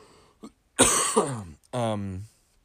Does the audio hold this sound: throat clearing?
yes